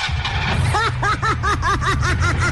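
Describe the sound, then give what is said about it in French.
A parked car's engine cranks to start, its starter giving off a quick run of rhythmic, squeaky bursts that sound like snickering laughter over a steady low rumble, fairly loud. “Je viens de comprendre, ce sont les moteurs qui sonnent comme ça ici.”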